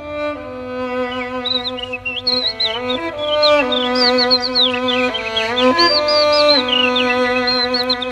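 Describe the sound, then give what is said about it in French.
A human voice whistles and trills in imitation of birdsong, quick high chirps and warbles flitting above steady sustained musical notes that change pitch in steps, in a performance mixing classical music and birdsong, continuous and fairly loud throughout. “nous raconter comment vous imitez ces oiseaux. Je précise que ce qu'on a entendu, c'est vraiment votre voix.”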